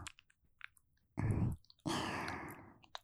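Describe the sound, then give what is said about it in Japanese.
Two warm, breathy exhales are blown close to the listener's ear, a short puff followed by a longer, softer one, with faint wet mouth clicks scattered around them and no talking. “耳元で、あったかーい吐息、吹きかけられるの。”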